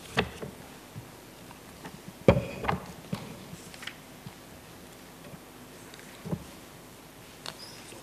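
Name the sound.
book pages being turned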